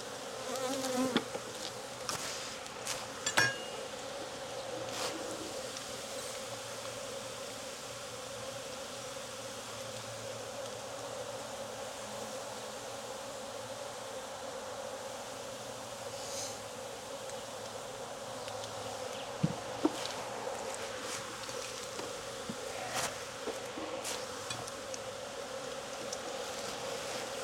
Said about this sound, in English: A lot of bees in here, so it's very easy for me to miss her, especially if she's not on a frame and or if she's not here.